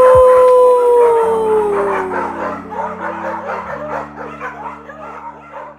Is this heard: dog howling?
yes